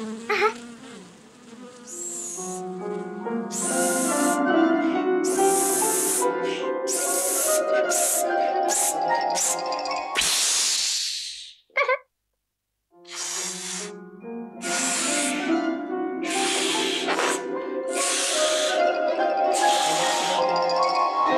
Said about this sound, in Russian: Надувай шарик.